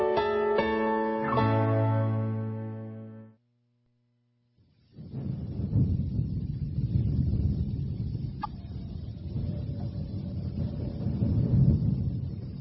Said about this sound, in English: I love that. Sounds like a storm.